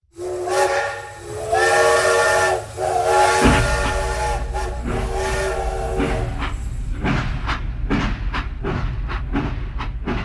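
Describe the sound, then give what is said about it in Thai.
A loud steam train whistle blows for a few seconds over a constant roar of hissing steam, followed by a steady rhythm of chuffing bursts as a locomotive works on Sudan's railway. “เคยมีเครือข่ายทางรถไฟหลายสายที่ใหญ่ที่สุดในทวีปแอฟริกาซึ่งขบวนรถไฟทั้งหลายโดยส่วนใหญ่แล้วแม้ได้นําเข้ามาจากสหรัฐ”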